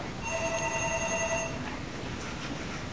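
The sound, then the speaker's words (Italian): A telephone rings once, a steady electronic tone lasting just over a second against a constant low background rumble, then stops, leaving only the ambient noise. “Telefono, sì.”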